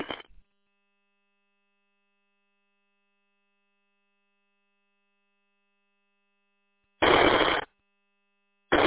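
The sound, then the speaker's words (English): Short bursts of harsh radio static hiss and crackle, a brief one at the start, a louder half-second burst in the later part and another at the very end, with silence between. “station out there is nothing but static.”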